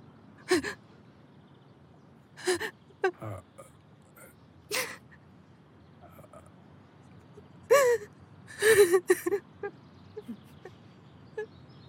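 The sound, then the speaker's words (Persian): A person sobs, with sharp, uneven gasping breaths and short broken cries coming in irregular bursts, separated by quieter pauses. “گریه نکن، من همینجا.”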